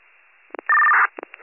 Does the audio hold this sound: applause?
no